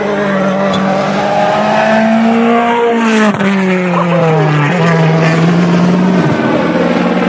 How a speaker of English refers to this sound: So first car is on the road this morning, the stage is live, the helicopter is following it.